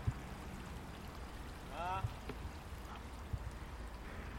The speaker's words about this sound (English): There are these huge, big, sprawling, smooth rocks underneath this ancient bridge, and all around them in various directions there are these pools, puddles, little streams of water collecting way behind me